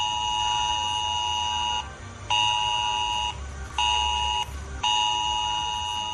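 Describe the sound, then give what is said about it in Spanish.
A loud, harsh emergency alert tone on mobile phones across half of Asturias, Spain, a Civil Protection test at 10:30 in the morning, blares in long steady bursts separated by brief pauses, a piercing two-pitch electronic warning sounding alone with no talking. “Este sonido ha saltado a los móviles de Media Asturias a las 10:30 de la mañana y ha llegado acompañado de un mensaje de Protección Civil que informaba de que se trataba de una prueba para comprobar que las alertas por emergencias funcionan.”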